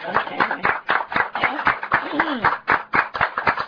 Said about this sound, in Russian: У нас, господа, еще и аудитория есть небольшая, которая о себе сейчас даст знать громкими аплодисментами.